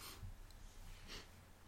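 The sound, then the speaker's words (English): Two short, breathy sniffs about a second apart, fairly soft, as someone smells the neck of a wine bottle. No one speaks. “All right, sniff.”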